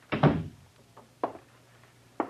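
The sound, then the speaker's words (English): A door shuts with a heavy, booming thud, followed by two fainter, sharper knocks or latch clicks about a second apart. No one speaks. “Close the door.”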